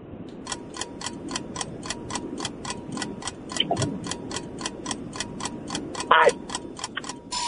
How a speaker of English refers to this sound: Oh, there's the buzzer for question number five.